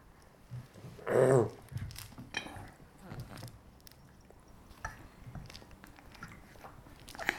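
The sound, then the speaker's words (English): A hedgehog named Hector chewing noisily, a steady run of wet smacks and crunchy clicks with one louder scuffling burst near the start, no talking. “Very noisy hedgehog. Very, very noisy.”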